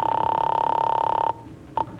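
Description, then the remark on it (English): A telephone ringing tone heard over the line: one long, steady, mid-pitched ring, a short silence, then the brief start of a second ring. No one speaks. “they gave me this number. Okay, I'll call it.”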